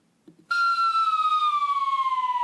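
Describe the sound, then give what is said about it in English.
A loud emergency siren blares in abruptly after a brief faint sound, holding a strong steady tone that slowly glides downward in pitch with rapid pulsing, dominant, no talking. “I my brain was wiped by a siren.”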